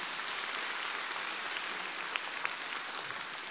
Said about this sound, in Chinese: 鼓掌。